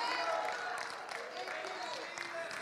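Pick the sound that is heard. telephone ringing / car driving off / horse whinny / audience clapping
audience clapping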